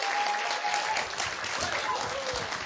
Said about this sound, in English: Keep the applause going, people. Keep the applause going.